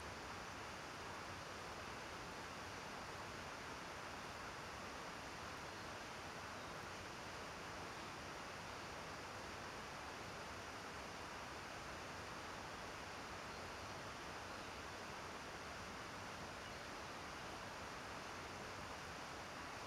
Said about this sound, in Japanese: けど綺麗な滝だね。優しい音がするっていうか、ほら、癒されない？